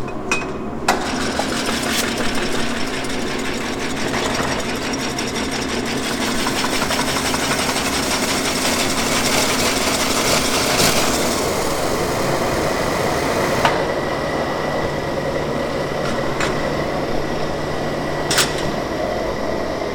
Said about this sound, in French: On met les cloches sur la vapeur pour qu'elles deviennent molles et puis après on les passe sur la clocheuse qui va permettre d'étirer les cloches.